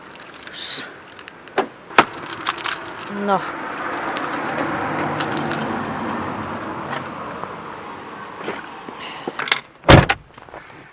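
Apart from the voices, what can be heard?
keys jangling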